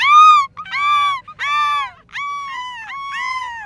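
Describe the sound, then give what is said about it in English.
Seagulls on a beach calling in a loud, harsh series of about five drawn-out cries, each bending downward, repeating back to back with no talking. “The gulls along the beach definitely look amused.”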